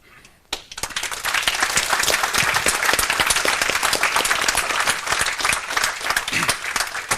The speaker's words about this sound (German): So, bevor wir die Fragestunde einsteigen, hätte ich gesagt nochmal einen großen Applaus für alle Teams. Ohne die ist das hier alles nicht so einfach und hübsch und flauschig möglich.